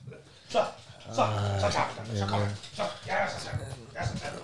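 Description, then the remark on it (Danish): A small dog whimpers, a run of high, wavering whines and yips, with a person's voice mixed in. “Du er sådan en lille dum hund.”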